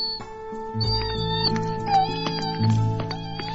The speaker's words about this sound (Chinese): 哎，住手！小弟弟，你在做什么啊？怎么可以把我家的小猫咪绑在树上呢？